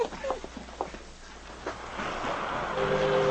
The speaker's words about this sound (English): The boat left the dock early that morning.